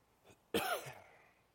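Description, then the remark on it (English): A single sharp cough bursts out with a harsh throaty rasp, then trails off into a short fading breath, with only quiet background noise around it. “My apologies for the coughing, guys.”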